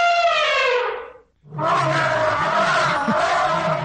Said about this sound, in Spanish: ¿Era así de grande o era más pequeño el elefante? ¿Tú estás rodando una silla ahí? Pero, ¡ah, eso es un elefante!